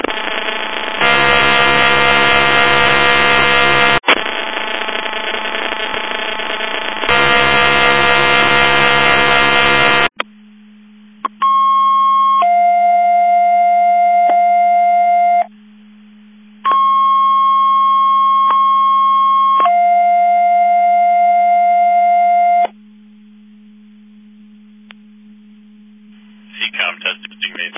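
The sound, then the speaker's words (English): Loud electronic paging alert tones for radio receivers in a McHenry County Division 5 mutual aid box alarm test: long blaring buzzy tones alternate, then a steady low hum carries sequences of clean high beeps in two repeating bursts, ending in faint static. “mutual aid box alarm alerting receivers. Test 12345, 54321, 10:03 hours.”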